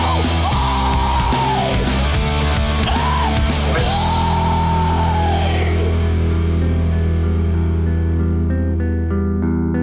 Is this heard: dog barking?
no